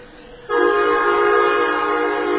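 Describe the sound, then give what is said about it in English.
An Amtrak Midwest passenger train with eight double-decker cars, pulling in to stop, blares its horn loud and steady, starting abruptly after a half-second of low rumble and holding its chord for about two seconds with no talking. “It's not really necessary when you're stopping to blow the horn, but why not? It's a big train.”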